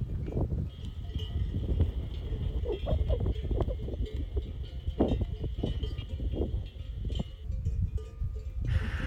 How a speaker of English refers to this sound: So when you pass sheep, they're kind of fun because they have, a lot of them have bells. And so I'll play a little recording of the sheep with the bells, because I thought it was fun.